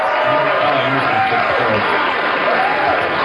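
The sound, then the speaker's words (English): A large crowd cheers and applauds Tom Emmer after he addresses them, a dense, continuous wash of clapping and whoops with a few rising shouts cutting through, loud and sustained for the whole moment. “All right, that was Tom Emmer addressing the a very happy crowd.”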